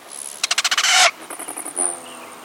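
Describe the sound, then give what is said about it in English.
Whistling wings of a male rufous hummingbird streaking through a garden in early March: a quick series of sharp, high buzzy pulses rising into a loud sustained zing, followed by fainter trilling pulses and a thin whistle. “You are hearing the whistling wings of a male rufous hummingbird as it streaks through the garden, a sure and welcome sign of the advent of spring.”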